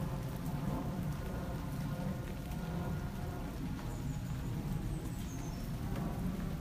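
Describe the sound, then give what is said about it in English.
Steady rain falls continuously, a dense even hiss with a low rumbling undertone throughout, fairly loud, with faint higher chirps briefly audible in the background. No one speaks. “We've had too little of it, so this is some well-deserved rain.”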